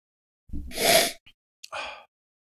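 Sniffing: a long, airy inhale through the nose, a brief catch, then a second shorter sniff, as a person smells something with a strawberry scent. No talking.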